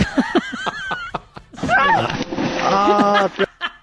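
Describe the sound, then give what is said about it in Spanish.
A sudden splash of water hits a person hard and rushes for a couple of seconds, with people laughing and shouting over it before and during the spray. “¡Te bañaste! ¡Te bañaste, güey!”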